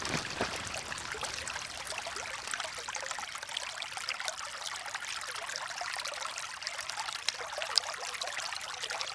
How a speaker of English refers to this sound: Lovely. If I got closer to it, we could probably hear it. Yes, coming through here. Yes, you can. Just over here, look, there's a lovely little waterfall there.